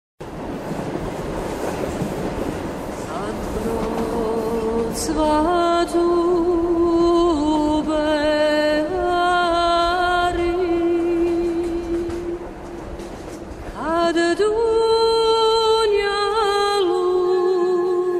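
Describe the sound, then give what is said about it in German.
Continuous rumbling noise recorded inside a moving railway carriage, from the CD to the film Neue Welt, soon joined by loud, sustained whining tones that shift in pitch, steady throughout with no voices. “Die Aufnahmen aus der Eisenbahn findet man auf der CD zum soeben erschienenen Film Neue Welt, der zurzeit im Wiener Motivkino läuft.”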